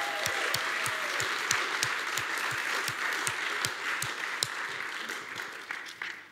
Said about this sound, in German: Gebt mir doch einen herzlichen Applaus.